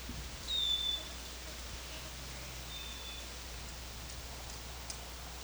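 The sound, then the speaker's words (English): A wild bird gives one clear, high whistled call, followed by a few faint, thin chirps over a steady background hiss. No one speaks. “These are all wild birds.”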